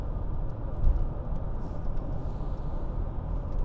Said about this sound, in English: We're on 521 from Camden to Sumter. And goodness gracious, there's a lot of traffic on this here road.